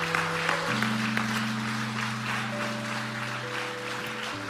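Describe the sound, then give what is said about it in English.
A church crowd applauds steadily for several seconds for people coming to the front, a dense, even clatter of many hands, while sustained low keyboard or organ chords hold underneath and shift pitch partway through. “Come on, give them a big kohe round of applause.”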